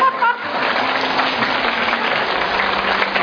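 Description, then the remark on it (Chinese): A crowd claps steadily for about three seconds, a dense, even wash of many hands that stays loud throughout, with a brief voice audible at the very start. “各位，我已经著作等身了，来给我个掌声。”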